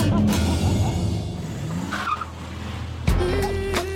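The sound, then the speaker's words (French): A Porsche sports car engine roars with high, wavering tire squeals on tarmac as the vehicle skids, then a sudden louder burst of revving near the end, all loud with no talking. “Je me suis acheté la dernière Porsche, la X triple X 3000, ça s'arrache le macadam, mon pote.”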